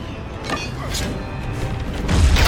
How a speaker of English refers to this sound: Lightning strikes. The bomb.